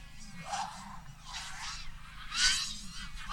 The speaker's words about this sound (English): Oh, and can you hear that? That's that's not the foot of a biplane anymore, or the beautiful dragonfly. That's a swarm of angry mosquitoes flying about. That's the drones going around the course.